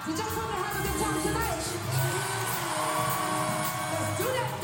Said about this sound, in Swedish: börjar ett högt brus av pirriga röster och tjut sprida sig bland den unga publiken.